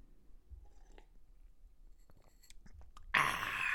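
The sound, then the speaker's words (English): Faint mouth clicks and small ticks lead into a sudden loud, hissing slurp of someone sipping a thick green smoothie, which keeps going to the end. No one speaks. “Second sip of my green smoothie.”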